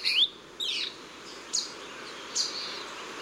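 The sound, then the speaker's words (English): A sabrewing hummingbird gives four short, high, sharp chirps, spaced irregularly about a second apart, each a quick downward-sweeping note over a faint, steady background hiss. “Biologists are now trying to understand the size and location of the saberwing's remaining populations.”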